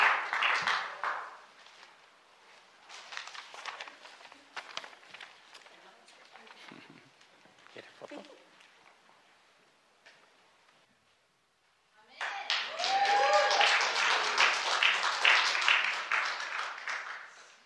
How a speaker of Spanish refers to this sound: ¿Por qué no le damos un aplauso a ellos? Dios les bendiga, los amamos mucho.